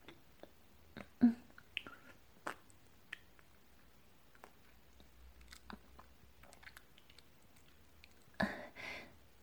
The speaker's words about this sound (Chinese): 怎么样？已经被我嚼烂的食物，味道是不是不好啊？可我暂时也只能想到这个办法来喂你了。